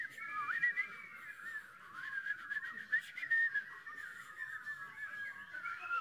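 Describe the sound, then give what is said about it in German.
A crowd of people whistles together in a dense, overlapping warble, imitating birdsong; the shrill tones waver and trill continuously for several seconds without any talking. “Der Einheimische sagt strukturieren, der Ausheimische meint Vogelgezwitscher, bitte alle pfeifen.”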